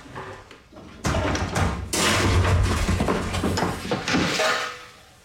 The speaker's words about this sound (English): You've been banging on your pots again, haven't you? I told you, if you keep on doing it, you won't have any pots left.